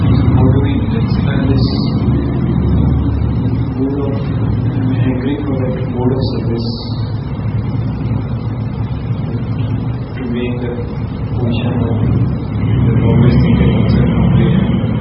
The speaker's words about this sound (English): The motorcycle's louder than you.